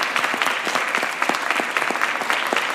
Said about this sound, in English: Just all of you stand up so we can give you a round of applause. Come on, everybody.